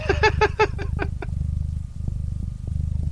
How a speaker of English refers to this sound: Is there a cat on your desk? Yes. You're purring. Can you move the cat? It sounds like there's a Harley Davidson idling right next to your head. I'm going to see if I can put the microphone on Potato. Yeah, that's a loud-ass purr.